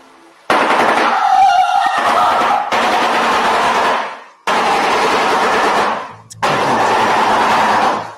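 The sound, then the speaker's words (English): A shoebill's loud, rapid bill-clattering comes in four sustained machine-gun-like bursts separated by brief pauses, a harsh rattling drum with no voices over it. “Scariest bird sounds in the world. Yeah, that thing. Shoebill.”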